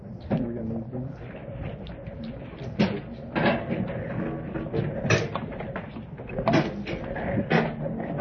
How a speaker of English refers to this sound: let's see, we have some folks coming in, we need a couple chairs. Why don't we slide some of these empty chairs back there, some of these with the tablet arms for these folks.